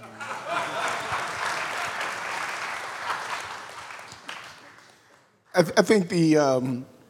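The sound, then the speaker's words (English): An audience applauds steadily for about five seconds, a dense wash of clapping that slowly fades out before a man begins speaking. “Y'all supposed to clap for him.”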